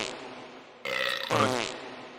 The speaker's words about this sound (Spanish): Si no lo oyes, no oyes los pedos.